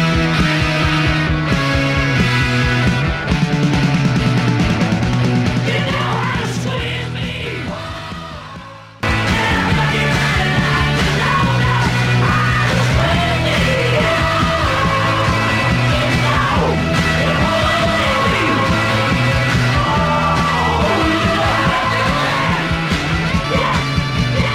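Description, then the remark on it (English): A loud glam rock record, that week's number one on the International Service of Radio North Sea, plays with a dense band sound and shouted, chanting vocals. It fades down and drops out briefly, then kicks back in at full volume. “Now, that's a record that's absolutely knockout, isn't it?”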